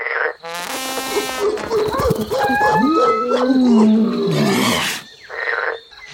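A chorus of animal cries: high whooping monkey howls rising and falling over deep, rumbling tiger roars, loud and overlapping for several seconds with no talking.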